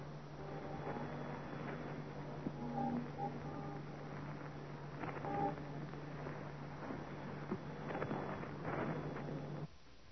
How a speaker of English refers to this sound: Here's how one of those salutes sounds as picked up from a microphone in Red Square. You'll hear the chimes of the Kremlin clock and the thunder of the big guns.